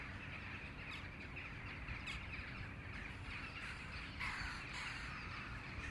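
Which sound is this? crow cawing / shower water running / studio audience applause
crow cawing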